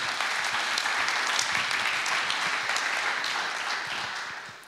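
An audience applauds in thanks, steadily, a dense wash of many hands clapping at an even, fairly loud level that tapers off slightly toward the end, with no voices standing out.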